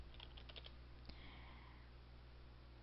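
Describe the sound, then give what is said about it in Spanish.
A quick burst of typing on a computer keyboard while writing the title of a concept map, several light clicking keystrokes in fast succession, followed by a single sharper click and then a steady low background hum with no one speaking. “Para escribir, hacemos doble clic dentro del cuadrito y escribimos el título de nuestro mapa conceptual, los recursos naturales.”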